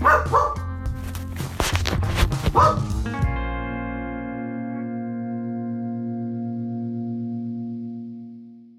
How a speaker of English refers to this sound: my mildly deranged dog, Raffy, who has been nothing but a pain in the rear during our closet recording sessions